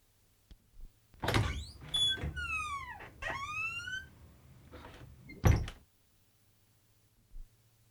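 A door opens with a thump and a long, wavering hinge creak that squeals up and down, then slams shut with a heavy thud. A faint click follows; no one speaks.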